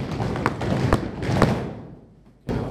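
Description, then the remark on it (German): Three firm stamps of the right foot land as heavy, booming thuds at an even, steady pace, with scuffing and rumble between them, then a quieter lull before one more thud. “nimmt einmal den stampft einmal dreimal feste auf mit dem rechten Fuß.”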